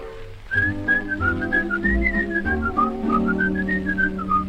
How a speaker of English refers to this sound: There's a little Swiss whistling song, and they whistle it all day long. For when little Swiss things go wrong, they forget to grouse and grumble. All they do is, all they do is, with a little Swiss whistling song.